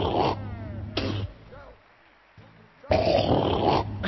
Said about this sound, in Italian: C'è anche il robot sbadigliatore. No, è il russatore, scusa.